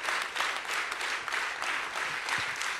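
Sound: audience applause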